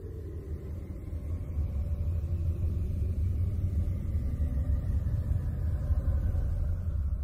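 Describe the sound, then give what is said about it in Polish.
A space sonification of Miranda, a moon of Uranus: a deep, steady rumbling drone that swells slightly after the first second, with faint wavering higher tones drifting above it. No voices. “Miranda w kosmosie, tak ją słychać.”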